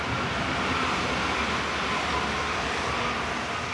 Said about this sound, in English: We turn a corner to find the train tracks in front of us and a New Silk Road train passing through, headed west to Central Asia and possibly all the way to Europe.